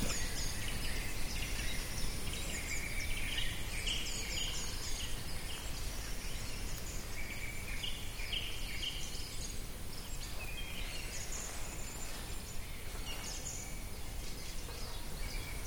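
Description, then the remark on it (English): A dense chorus of birds chirps and trills continuously from several directions in a misty forest at dusk, with overlapping high calls over a steady low rumble of ambient background noise. “When I was thinking about the man who was speaking, and I was thinking we've really got no more idea of what he's saying than we have what the birds are saying.”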